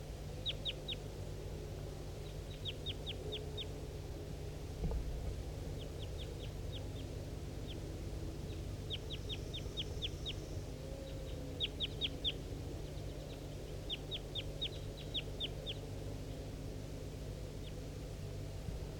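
wild bird calling

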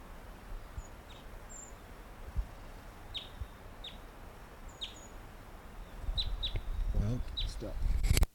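wild bird singing

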